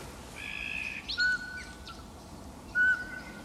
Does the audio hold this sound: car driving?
no